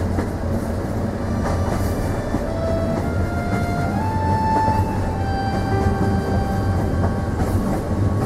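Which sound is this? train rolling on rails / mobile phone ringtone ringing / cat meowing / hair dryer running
train rolling on rails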